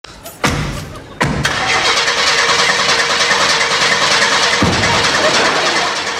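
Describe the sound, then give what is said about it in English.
A car engine cranks but fails to start. Two abrupt bursts are followed by a loud, steady grinding churn that continues for several seconds with no voices. “Like, Kramer tries to start the car and it won't start.”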